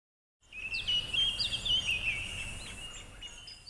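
Bright, high bird chirps and short warbling calls repeat quickly over a soft background hiss, moderately loud with no voices present.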